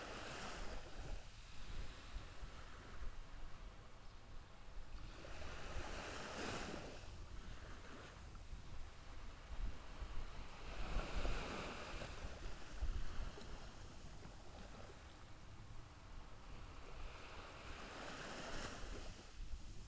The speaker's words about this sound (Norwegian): Mer og mer avspent. Etter hvert som bølgene slår inn. Og tilfører ny og god energi til deg.